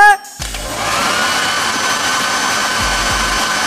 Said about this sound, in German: Aber in der Schule haben die gesagt, wir sollen noch alles absaugen und unsere Sachen und Bettwäsche waschen. Absaugen? Meinst du konkret mit dem Staubsauger?